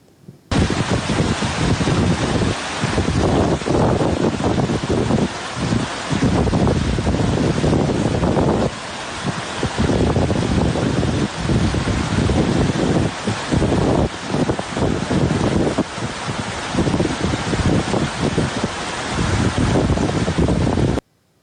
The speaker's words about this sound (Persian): ویدئویی هم داریم از زیر آب رفتن جاده نیمروز به هیرمند در شمال سیستان.